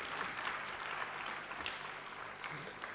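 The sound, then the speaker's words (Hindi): Steady audience applause fills the whole stretch, a dense, even patter of many hands clapping at a fairly quiet level with no voices rising above it. “मौसम ये कहता है मुस्कुरा दीजिए, बात बड़ी खुशी की आज कहने दीजिए, उमंग इतना आए सब में, आप दिल से जोरदार ताली बजा दीजिए।”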